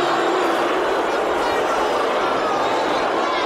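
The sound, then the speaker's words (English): A big crowd roars and cheers, a dense, continuous wash of many voices blending into one loud, steady din with no single speaker standing out. “A crowd. Yeah. Just a big crowd.”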